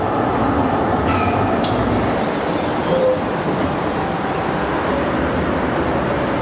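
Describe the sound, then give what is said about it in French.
A tram rumbles steadily through a busy city intersection, its heavy low drone filling the scene, with brief metallic squeals and clanks from the wheels on the rails and no voices. “Non, ça reste un de mes carrefours préférés au monde. Hein. Peut-être à cause des tramways.”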